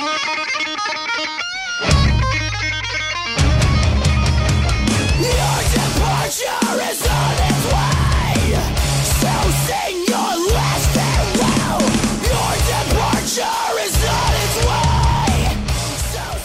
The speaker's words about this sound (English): There are some pretty dynamic guitar parts. Melody and scream patterns are solid. I definitely recommend it.